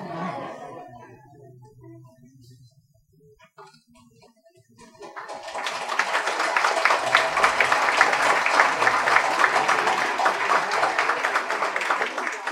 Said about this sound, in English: I see you haven't learned your lesson about applauding real hard.